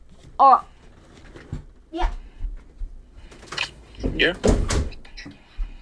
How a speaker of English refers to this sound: I just had to close my door real quick.